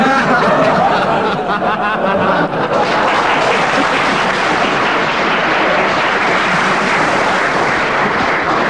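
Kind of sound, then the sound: crowd, audience applause and laughter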